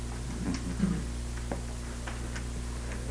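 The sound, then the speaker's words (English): Soft, regular ticking of an alarm clock, spaced clicks repeating at a steady pace over a low, constant background hum, with no voices present. “Okay, we have alarm clocks and music tonight, I guess, in the Village Center.”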